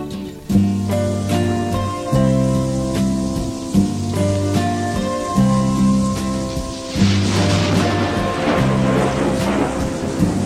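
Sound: rain falling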